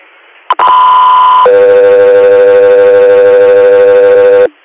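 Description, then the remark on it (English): Radio dispatch alert tones for the unit Accessory Air: after a brief burst, a loud steady high tone holds for about a second, then drops to a lower, slightly buzzy tone held for three seconds, with no voices. “Accessory Air, standby for tones.”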